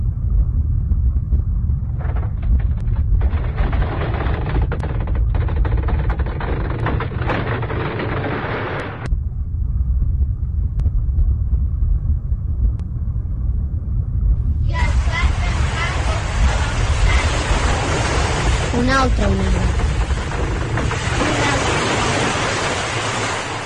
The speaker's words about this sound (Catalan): Ara s'aixecava una gegantina onada des de la mar fins al cel. Era tan esgarrifós de veure que tothom va callar de sobte. Un moment d'espera, tots trabonaven. L'onada, corrent cap a la terra, va caure damunt la platja i amb un soroll horrible.